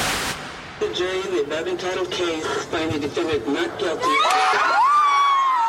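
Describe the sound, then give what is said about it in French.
A crowd of women cheers outside the courthouse as Michael Jackson's not-guilty verdicts are announced on 13 June 2005, a dense wash of excited voices and shouts that grows louder toward the end, with high rising whoops and shrieks of joy cutting through. “Et à chaque fois que le mot est prononcé à l'intérieur du tribunal, à l'extérieur c'est une explosion de joie chez les femmes.”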